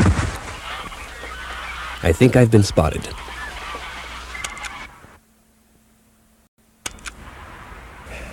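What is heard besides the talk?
canada geese honking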